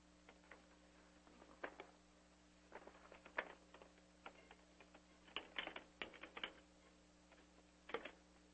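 Someone types up a motion on a computer keyboard in uneven bursts of soft clicking keystrokes with short pauses, fairly quiet, over a steady low electrical hum and no talking.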